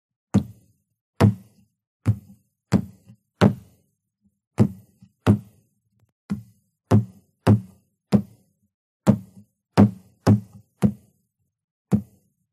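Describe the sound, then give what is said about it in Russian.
Both fists pound repeatedly on a wooden table to imitate the knocking of many ghouls, about eighteen heavy thuds in an uneven rhythm, some coming in quick pairs, with brief silences between and no voices. “Бьет по столу обоими кулаками, пытаясь имитировать стук множества упырей.”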